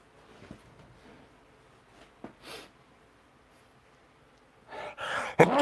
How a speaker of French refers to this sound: Excusez-moi, je sentais cet éternuement arriver depuis le début de l'émission, il fallait que ça sorte.